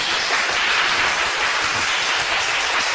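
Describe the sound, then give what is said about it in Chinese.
A crowd claps steadily for three seconds, a dense, even wash of many hands with no pauses or swells and no voices on top. “要不要给陈老师热烈掌声鼓励一下？”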